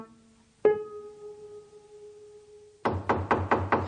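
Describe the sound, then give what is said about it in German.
A sharp struck tone rings out and fades, then a firm series of about five quick knocks on a door sounds in steady rhythm, with no voices present. “Die Tür ist offen, kommen Sie rein.”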